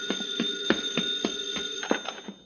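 A telephone bell rings with a rapid, rattling metallic clatter over a steady high ringing tone, close and fairly loud, lasting a couple of seconds before cutting off. No one speaks.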